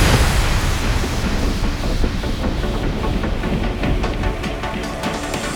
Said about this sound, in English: Giant sparks of static electricity, up to a billion volts, rip the air apart. In that instant, we see a brilliant bolt of light race across the sky. Lightning strikes.